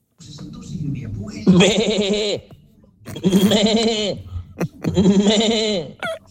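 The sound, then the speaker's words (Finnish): A person imitates a sheep, letting out three long, wavering bleats with short pauses between them, loud, with some low background murmur at the start. “Aika hyvä lammas.”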